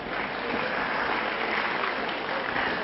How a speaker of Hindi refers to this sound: अच्छा ताली क्यों बजाई?